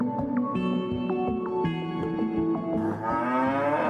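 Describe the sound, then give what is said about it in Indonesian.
Several cows moo loudly and nearly continuously, their long drawn-out calls overlapping one another and rising and falling in pitch, with no talking. “Sapi sangat bermanfaat bagi manusia karena menjadi sumber protein penting.”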